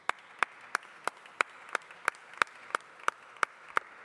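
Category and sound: crowd, applause in parliament chamber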